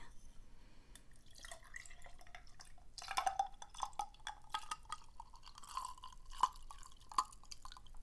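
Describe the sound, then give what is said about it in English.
Whiskey being poured into a glass with three ice cubes, a quiet trickle with a pitch that slowly rises as it fills, dotted with small clinks and drips. No one speaks. “Alrighty, let me get your whiskey.”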